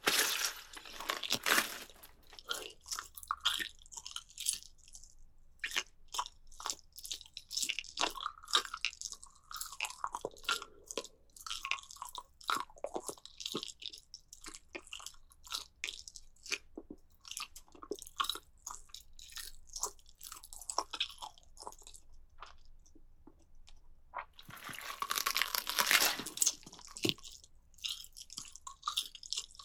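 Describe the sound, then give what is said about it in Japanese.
Crunchy biting and chewing, a steady run of sharp crackling bites and mouth sounds over about thirty seconds, with louder crunching bursts near the start and toward the end. No one speaks. “今日は上腕二頭筋にがっついちゃおう。”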